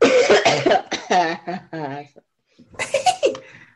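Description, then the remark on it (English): Loud coughing in a rapid series of harsh, raspy bursts, some with a strained voiced edge, then a brief pause before another round of hacking coughs, after a person takes a dab. “I'm gonna take a dab just so I can share in solidarity with you and coughs.”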